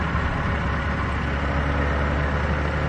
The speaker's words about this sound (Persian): ماشینی از کنار علی رد میشه و طاهره کمی میترسه. اما اتفاقی نمیفته.